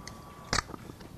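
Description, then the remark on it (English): A sharp crack with a brief fizzing burst, like a pop-top can being opened in a kitchen, followed by a few faint clicks against a low steady hum. “since when did eggs have pop tops?”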